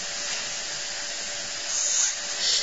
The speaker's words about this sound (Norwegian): Yes, det regner det. Det regner det regner.